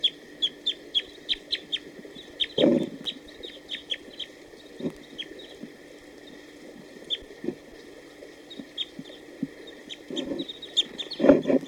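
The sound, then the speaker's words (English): A wild male bird at a net setup sings short, high, whistled song phrases, the quick notes repeating in bursts over a steady hiss, with a few lower thumps and scrapes now and then. No one speaks. “although there were some song phrases given by a wild bird just a few minutes ago.”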